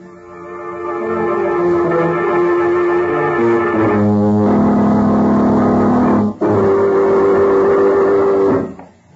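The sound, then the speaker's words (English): A car engine drones steadily and loudly as a car is driven out of a garage on a rainy night, its pitch stepping up a couple of times as though shifting, then cutting off abruptly at the end. No one speaks. “I'll get my car out of the garage and take them out to camp right now and turn them over to Major Wayne.”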